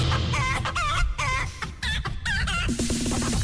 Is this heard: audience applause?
no